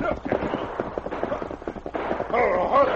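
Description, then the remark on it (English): A group of men fires a rapid, uneven series of sharp gunshot pops steadily for about three seconds. The shots are moderately loud, and a man's voice breaks in over them near the end. “Yeah, those are my men. But what are they shooting at?”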